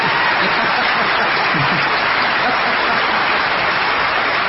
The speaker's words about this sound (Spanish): Y entonces quedamos así, cuando ustedes quieran aplaudir, aplauden, y si no, no aplauden.